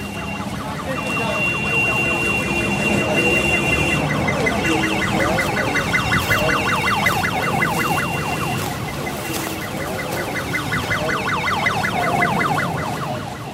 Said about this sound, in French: Et le feu continue. Voilà, les ambulances qui sont là, à moitié vides, mais t'as vu, ça aussi, c'est encore des ambulances du tiers-monde, quoi. C'est une pauvre camionnette avec un lit-camp à l'intérieur.